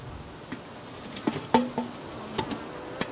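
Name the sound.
honeybees buzzing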